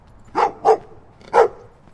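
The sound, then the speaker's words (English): Guard dogs at a house in West Oakland bark three times in quick, uneven succession, two together and then one after a short pause. The barks are sharp, with no talking around them. “Got some guard dogs.”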